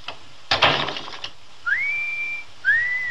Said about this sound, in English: Anyone can whistle.